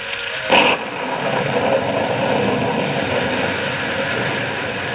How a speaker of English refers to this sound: It's pouring down rain.